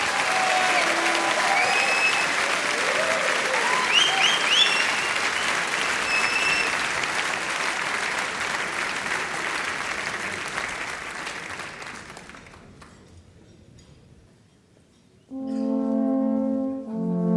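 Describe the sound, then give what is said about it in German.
Loud, sustained applause from a large audience welcoming the Salvator speaker at the Nockherberg Lenten sermon, with a few whistles and cheers, for about twelve seconds, then fading out; after a brief quiet, deep sustained alphorn tones begin. “Bitte begrüßen Sie mit einem kräftigen Applaus unseren Salvator-Redner Maximilian Schaffroth.”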